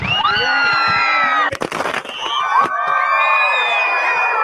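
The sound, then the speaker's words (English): A loud crowd of hundreds of high-pitched young voices from St. Stephen's School, Duncrae campus, screams and cheers without pause during a Guinness World Record attempt for most people firing confetti cannons simultaneously. A quick cluster of sharp, crackling bangs from the cannons breaks in midway before the shrieking cheers carry on. “We are here for the most people firing confetti cannons simultaneously.”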